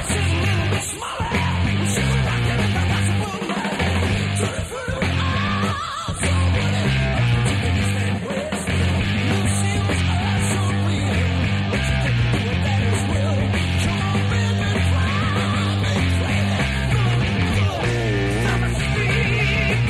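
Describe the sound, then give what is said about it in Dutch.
A loud, dense rock'n'roll song with driving bass and guitars, a male vocalist screaming and yelling over the full band throughout. “Maar hier hoor je zijn schreeuw.”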